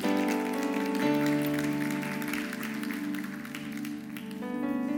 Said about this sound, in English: Can you clap for them?